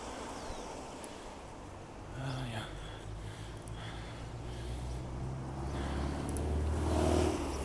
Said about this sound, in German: oh, ein schönes altes Auto. Ich konnte gerade leider nicht erkennen, was es ist, auf jeden Fall. Allein schon vom Anblick her sieht man, okay, hier ist ein bisschen älter. Hat doch historisches Kennzeichen. Schönes altes rotes Cabrio, irgendwas.